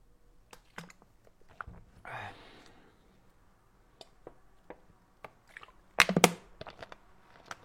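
A person drinking water: scattered wet mouth clicks and gulps, a breathy exhale partway through, then a louder cluster of swallows near the end. No one speaks.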